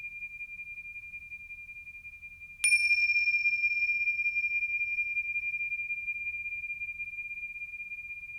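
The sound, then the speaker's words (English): A meditation bell is struck once during a meditation practice, its clear metallic tone lingering over a faint earlier hum and fading slowly across several seconds. No voices, only the bell's long, gentle decay. “Hearing the bell, allowing yourself a moment of arriving, sensing your body right here, right now, giving yourself fully to this meditation practice.”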